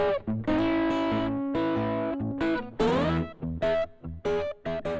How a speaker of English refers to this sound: The pedal that they introduced some months ago is called the Smolder Acoustic Overdrive. And yes, it adds overdrive to your acoustic guitar signal. Pretty darn cool. Let's check it out.